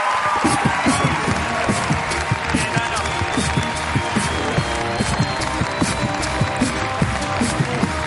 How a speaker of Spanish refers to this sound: Pues muchas gracias por venir. Un aplauso para DJ Nano en la residencia.